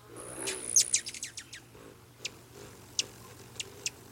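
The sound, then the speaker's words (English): A rufous hummingbird gives sharp, high chirps, first a quick flurry of notes, then spaced single ticks, against a faint low hum. “Nearly all the rufous hummingbirds will begin their migration by late August, sipping their way south on high mountain wildflowers all the way to Mexico, until they whistle into our lives again in spring.”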